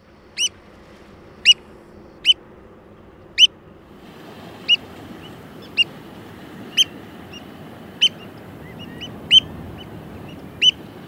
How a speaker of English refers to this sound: If you guessed an oyster catcher, you're right. You heard the sound of an American oyster catcher, one of two oyster catcher species in North America, out of several species found worldwide.